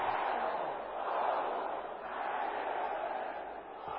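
A church audience shouts together in response to a preacher's call during prayer, a sustained, loud roar, a dense mass of overlapping cries that swells and dips slightly across four seconds without any single clear voice.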